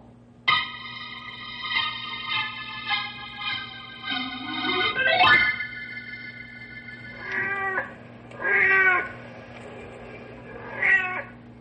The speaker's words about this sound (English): The big tomcat you're hearing on the prowl is called Blackie. He's the fond pet of Mrs. Beulah Lindstrom.